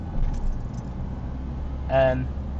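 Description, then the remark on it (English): Steady low road traffic rumble fills the background, with a brief, louder tonal swell near the end, like a vehicle passing. “Sorry, traffic. I know there's traffic.”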